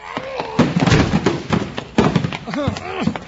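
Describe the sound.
A locked door is forced open with heavy, booming thuds, a cluster of crashing blows early on and another hard slam later, while voices grunt and call out over the noise.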